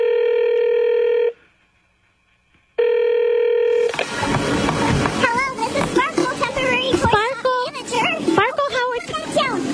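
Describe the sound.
Two long, steady electronic telephone ring tones sound clearly, separated by a brief silent gap, before the line gives way to busy, lively voices and music-like sound.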